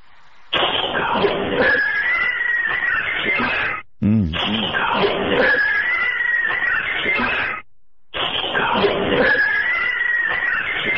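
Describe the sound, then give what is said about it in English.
An eerie, cat-like yowling sound plays in three long, loud bursts separated by brief silences, with a strained, wavering, scream-like quality that rises and falls in pitch. “I want to hear the cat thing again.”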